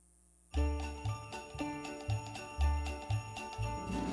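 After a brief silence, a lively Christmas song intro begins, with a bouncy, loping bass beat and bright jingling bells ringing steadily over the full, close instrumental backing.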